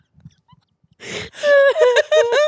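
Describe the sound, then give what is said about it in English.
After a moment of near silence, a sharp gasping breath gives way to loud, open-mouthed wailing, like a toddler crying, in several drawn-out, wavering bursts. “Open mouth cry like a toddler.”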